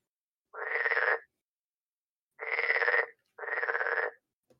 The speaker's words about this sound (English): Which is incongruous, because, as stated, it's fucking winter. It's also, if that is a frog, it's a very large frog. How large are we talking? Quite possibly concerningly large. Like, frogs are loud, but that sounds bigger than loud.